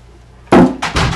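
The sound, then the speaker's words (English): A door being shut: a loud, sharp thump followed a moment later by a second heavy knock-like impact, then quiet background hiss. “Hey, you didn't shut! Didn't shut the door.”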